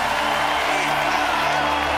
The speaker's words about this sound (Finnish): Isot on aplodit, mutta kyllä esityksen läpi ainakin mun luureihin kuuluu myös selvää mölyämistä tämän esityksen aikana. Israelin edustaja … sai eilisessä semifinaalissa ristiriitaisemman vastaanoton.